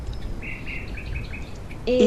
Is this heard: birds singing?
yes